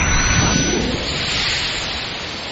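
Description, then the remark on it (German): Steady, loud rush of sea surf filling the whole clip, a deeper swell rising early on as a wave breaks, then settling into continuous hissing wash. “Konzentrier dich auf die Wellen. Hör einfach nur auf das Meer.”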